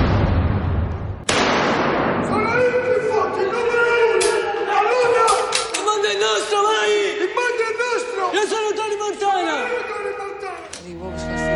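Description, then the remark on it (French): Sharp gunshots crack out one after another at irregular intervals, loud and close, over a chaotic backdrop of shouting voices and rushing noise, like a battle scene. “Après ces coups de feu tirés du film Gamora qui sera projeté à Montrepos le samedi 11 juillet”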